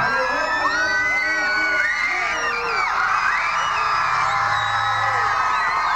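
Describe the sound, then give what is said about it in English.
A huge outdoor parade crowd at 360 Wabasha, about 20 deep, dressed warmly and throwing confetti and toilet paper, roars and cheers continuously with the Twins just behind, with overlapping shouts, whoops and high-pitched yells blending into a dense, loud wall of sound. “And there is a tremendous crowd, 20 deep.”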